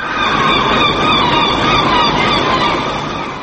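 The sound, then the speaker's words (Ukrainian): Seagulls cry in Oslo, Norway, during a noon minute of silence for victims of a mass shooting: a steady, overlapping chorus of shrill, harmonic calls over a constant wash of background noise, with no voices. “В Осло було чути лише крики морських чайок.”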